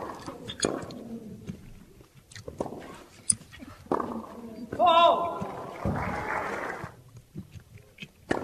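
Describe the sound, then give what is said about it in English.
Wet mouth noises of a match commentator eating: irregular bursts of chewing, slurping and lip smacking right against the microphone, with sharp clicks between them and a faint murmur of voices in the background. “And during the match yesterday between a French guy and a British guy, you could hear during the match one of the commentators eating. He's slurping, smacking his lips, chewing right into the microphone.”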